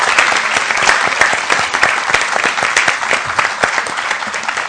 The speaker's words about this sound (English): How about another round of our applause